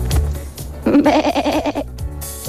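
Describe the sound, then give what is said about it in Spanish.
A person imitates a goat's bleat, one wavering, quavering "meeeh" lasting about a second, loud, with a rapid vibrato pulse. Brief noise comes before and after it. “Debe ser cuando has hecho tú la cabra y alguien le ha venido a la cabeza”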